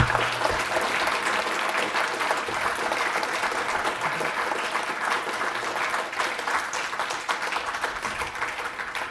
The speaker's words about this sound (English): Let's offer Michelle one round of applause. Thank you.